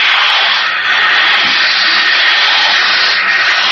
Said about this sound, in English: It's water pouring against the bulkhead.